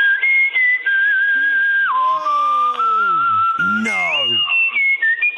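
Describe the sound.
Someone whistles a loud, high tune of long held notes with a few jumps in pitch, while a lower moaning, voice-like tone slides downward beneath it.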